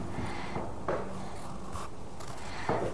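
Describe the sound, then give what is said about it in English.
A pencil scratches steadily across paper in a continuous looping stroke, drawing a circle, fairly quiet, with a couple of slightly firmer scrapes as the line curves around. “You draw a circle like this, darling. Draw a circle like that.”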